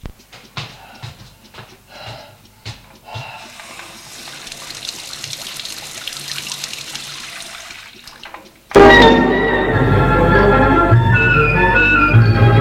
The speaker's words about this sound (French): Une fois qu'il est nu, il va dans la baignoire et prend une douche.